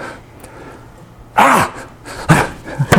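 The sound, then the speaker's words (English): A female puppy outdoors in the snow, licking snow instead of relieving herself, makes a few short vocal sounds: a sharp bark-like burst followed by softer whimpers and yips, over a faint low outdoor hum. “Well, the dog ain't going to the bathroom. She keeps licking snow, and I'm thinking she's going to pee more now in the house.”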